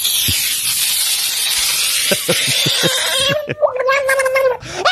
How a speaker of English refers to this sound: Sound of the week time, right there. Screaming frog in water.